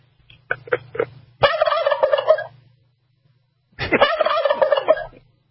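A turkey gives a few short clucks, then lets out two loud, rapid, warbling gobbles separated by a brief pause, each rattling on for about a second.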